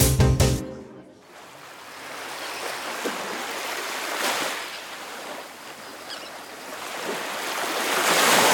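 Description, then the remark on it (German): Waves wash onto a beach in a steady, broad hiss of surf, swelling and receding in soft surges after a brief louder burst at the start. No voices are heard. “Na, endlich mal was richtig Schönes. Licht, Strand, Sonne, Meer.”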